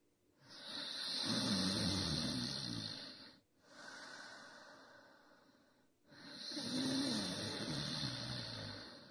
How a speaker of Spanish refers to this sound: ¿Ya estás a punto de conciliar el sueño y un ronquido te despierta?